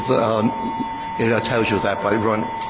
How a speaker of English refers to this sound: This Geiger counter also has an alarm when you go over 0.30 microsevs, which I guess in the Russian Federation is the highest level of contamination you can have in a residential house.